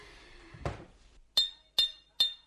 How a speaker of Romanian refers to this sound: Bate gongul. Da. De trei ori, auzi? De trei ori. Unu, doi. Unu, doi, trei.